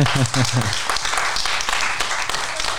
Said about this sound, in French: Eh ben, c'est sur ces applaudissements que va se clore cette dernière émission de la saison.